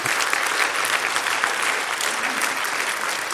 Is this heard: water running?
no